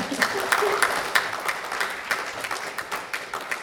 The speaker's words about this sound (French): Ben oui, on peut l'applaudir.